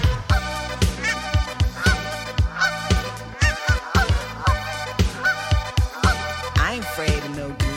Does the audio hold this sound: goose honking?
yes